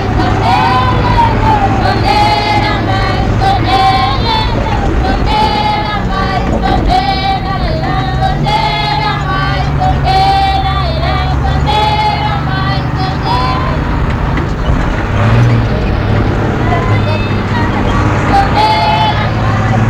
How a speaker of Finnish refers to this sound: Olemme matkalla viemässä pyhäkoululaisia kokoukseen ja yritän nauhoittaa heidän laulua tässä suuressa kuorma-autossa.